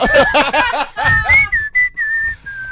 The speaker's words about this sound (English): And I whistle to the music I'm listening to. So they must so know. So it's not like yeah. And it's always Afrikaans pop.